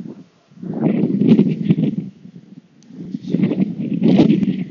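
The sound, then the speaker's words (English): Wind buffets a microphone outdoors in two swelling gusts, a low, rough rumble with a faint hiss above it that rises, drops briefly, then surges again. No one speaks. “sorry, it's very windy out here.”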